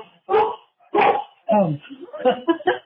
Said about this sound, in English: My dog just started barking.